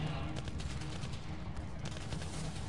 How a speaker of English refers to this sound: No, all the gunfire seems to be coming from inside. You can sort of make out the flashes through some of the armored windows that make up the outside. But basically, everything appears to be inside.